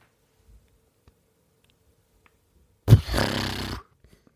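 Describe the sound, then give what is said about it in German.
A horse sound effect made for a Nicolas Cage movie trailer: one loud, rough, breathy burst lasting about a second, like a snort or short whinny, after several seconds of near silence with a few faint ticks. “Möchtest du mal kurz Pferd von Nicolas Cage hören?”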